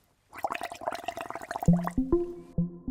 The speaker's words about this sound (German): Stoßen Fische vielleicht doch einfach Luft aus unter Wasser und macht es dann nicht einfach irgendwie blub, blub, blub, blub, blub, irgendwie so? So wie das jetzt hier mit unserem Trinkhalm ist?